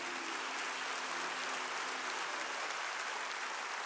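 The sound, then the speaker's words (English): An audience in a church sanctuary claps in praise of the Lord: dense, steady applause of many hands, a bright crackling wash that holds at an even level for the full few seconds with no voices. “Give the Lord a hand clap of praise in this house today.”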